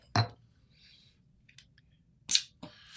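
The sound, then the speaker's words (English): A barrel-aged espresso stout is poured into glasses: two sharp glassy knocks, a faint fizzing patter between them, then a steady hissing stream of liquid starting near the end. No one speaks. “Well, let's pour. I'm excited.”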